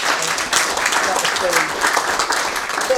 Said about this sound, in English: And 67 people have responded to the gospel. Okay, so can we have a round of applause?